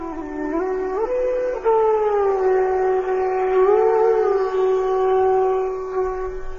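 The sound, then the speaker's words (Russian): A conch shell blown in one long, loud, horn-like blast lasting several seconds, its pitch stepping up at the start, then holding steady with a brief waver, rich in buzzing overtones, with no voices; the divine conch shells of Krishna and Arjuna, blown from their great chariot drawn by white horses. “На другой стороне поля Кришна и Арджуна, находясь на своей огромной колеснице, запряженной белыми лошадьми, затрубили в свои божественные раковины.”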